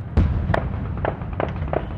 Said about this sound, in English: From this spot in the center of Tripoli, I've watched fireworks this week and also heard the sound of gunfire erupting in the air.